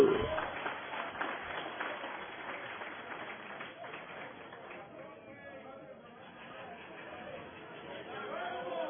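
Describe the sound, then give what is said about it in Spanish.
An audience at a convention in San Antonio, Texas bursts into loud, dense applause that gradually thins into scattered clapping and murmuring crowd chatter, then swells slightly again toward the end. “¡Un aplauso, compañeros!”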